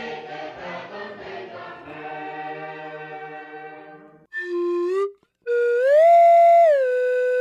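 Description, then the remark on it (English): A person whistles an imitation of the nautical boatswain's pipe used when coming on board a ship: a short low note, then a sustained tone that swoops up to a higher pitch, holds, and slides back down, following a stretch of hummed or murmured tones. “I'm trying to do that nautical whistle thing they do when you come on board a ship.”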